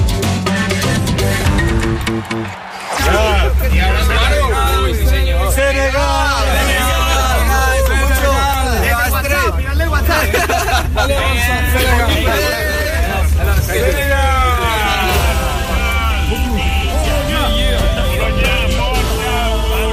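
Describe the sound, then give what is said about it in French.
Senegal football supporters chant and cheer loudly around the stadium hosting the Poland–Senegal match, many voices singing together in rising and falling, rhythmic waves. A brief lull near the start, then the crowd keeps going steadily over a low rumble. “Du rythme et de la voix pour les supporters du Sénégal qui donnaient donc eh bien tous ces cris pour encourager leur lion.”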